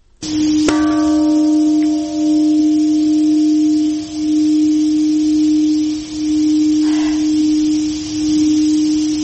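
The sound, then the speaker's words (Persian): A large memorial bell in Hiroshima, Japan, is struck twice at a Thursday ceremony marking the 75th anniversary of the atomic bombing of the city, each deep strike leaving a long, steady low hum that pulses slowly as it rings on, with no voices. “زنگ‌ها در شهر هیروشیمای ژاپن روز پنجشنبه به مناسبت 75مین سالگرد انفجار اتمی در این شهر به صدا درآمد.”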